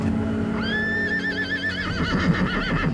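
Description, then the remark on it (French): A horse neighs loudly, a long wavering whinny that rises and then shakes in pitch. A low rumble of hooves or movement runs beneath it, with no talking. “Achille attaque à nouveau et la transperce, elle et son cheval, d'un seul coup de lance.”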